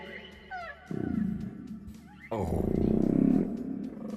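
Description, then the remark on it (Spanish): A recorded whale call: two deep, groaning moans with rough, rumbling overtones, the second louder and longer, preceded by a few faint rising chirps. No one speaks over it. “Primero vamos a poner una ballena para tener una referencia.”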